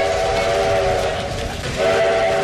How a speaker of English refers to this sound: Right now we're on the Grand Canyon Railway.